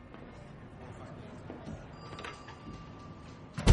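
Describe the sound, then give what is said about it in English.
An office door in a newsroom swings shut with a single solid thud at the very end, fairly loud, after a few seconds of quiet ambience and faint background murmur. “Shut the door.”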